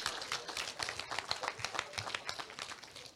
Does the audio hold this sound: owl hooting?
no